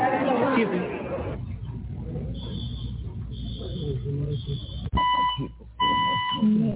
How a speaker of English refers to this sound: Fire alarms being mysteriously set off during the film.